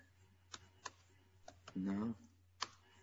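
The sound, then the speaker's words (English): A handful of sharp, irregular taps on a computer keyboard click out as the word "froth" is typed in, over a low background hum. A short murmured voice sound comes partway through, before one last keystroke. “We start typing in froth.”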